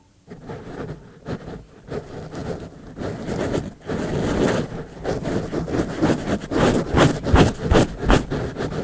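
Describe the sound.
A person in a studio imitates a sniffly bear sniffing around and sniffing the mic: breathy, noisy snuffles, irregular at first, then quickening into a steady run of short, loud sniffs with no talking.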